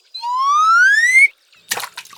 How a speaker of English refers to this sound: You throw the fishing line in the water.